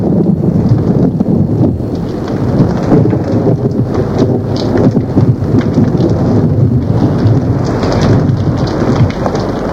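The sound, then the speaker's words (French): Steady, heavy rain pours throughout a thunderstorm, with deep thunder rumbling low and continuous beneath it and gusts of wind buffeting the microphone. No voices. “Elle accepta, car le ciel était encore noir de nuages et l'orage ne semblait pas finir.”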